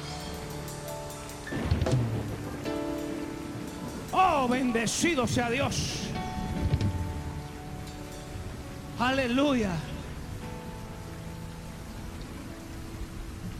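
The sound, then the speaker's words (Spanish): Steady rain hisses throughout, with a few faint low rumbles that could be thunder, while a man's voice breaks in with sung, emotional exclamations over the downpour. “Declara tu lluvia. Declara, declárala. Di, la oigo, la oigo, la oigo, la oigo.”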